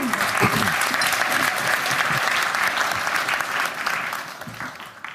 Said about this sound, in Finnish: Kyllä me aplodit voitaisiin antaa.